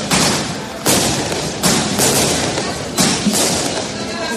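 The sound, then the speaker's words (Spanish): Fireworks rockets burst in a loud, irregular series of sharp bangs, about half a dozen in four seconds, over a continuous crackling roar with no pause between blasts. “Bueno, casi que podría decirse que no hay fiesta en España sin fuegos artificiales y en el norte de España no sin esta pirotecnia, Reiritz.”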